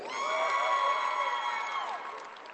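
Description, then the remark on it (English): A large crowd at a third-place medal ceremony of the Missouri state tournament cheers wildly as players receive their medals. High-pitched screams and shouts are held in one loud, sustained roar that eases off slightly toward the end. “You can hear the crowd going wild.”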